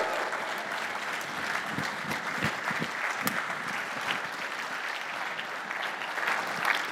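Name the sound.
audience applause and cheering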